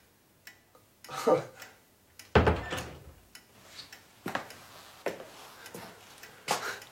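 A door swings shut with a solid thud partway through, surrounded by softer scattered clicks and small handling noises.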